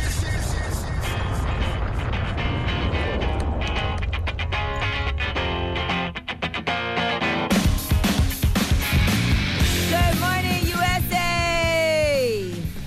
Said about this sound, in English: who screamed out, woo! Woo!